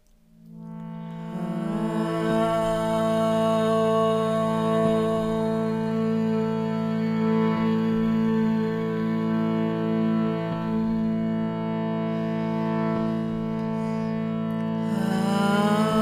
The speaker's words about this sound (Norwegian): Samle hendene foran hjertet. Lukk øynene og ta noen dype pust her nå, mens du lytter til at jeg chanter mantra om 3 ganger.